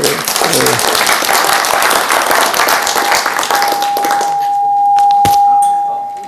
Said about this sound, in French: Alors je ne dis pas que ça n'existe pas, mais on va en faire de la publicité, voilà, donc on les applaudit.